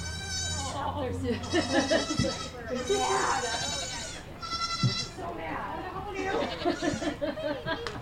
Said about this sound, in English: The goats are going to come back out again. They don't like the rain, so that's a lot of more hiding. Very much do not. Here come the babies.